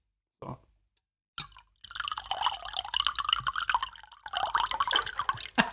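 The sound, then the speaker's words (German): Water is poured into a glass: a couple of short splashes, then a steady bubbling, gurgling pour that briefly pauses before continuing, with no one talking. “So, und so klingt das jetzt gerade, wenn wir uns Wasser eingießen.”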